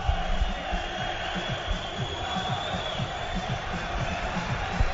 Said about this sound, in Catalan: Acaba la primera part en Mestalla. Jugadors a vestidors. Esta és la xiulada del públic per al seu equip, perquè hem viscut un esperpent en forma de partit de futbol. 0-3 en 20 minuts.